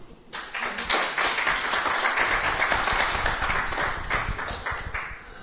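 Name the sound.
audience applause and cheering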